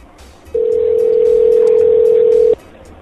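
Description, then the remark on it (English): A steady telephone dial tone hums loudly for about two seconds as a call is placed, starting and stopping abruptly over a faint background of room noise. “I'm calling him right now.”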